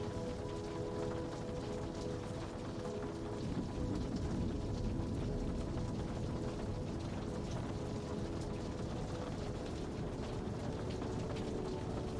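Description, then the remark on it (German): Steady, dense rainfall hisses continuously at an even volume against window panes by a seaside promenade, with a faint low hum running underneath and no voices. “Menschen in Regenmänteln und unter Regenschirmen spazieren gemächlich vorbei.”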